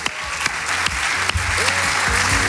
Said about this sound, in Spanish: Un aplauso para Santiago Cañizares.